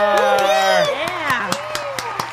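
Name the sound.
audience cheering and applause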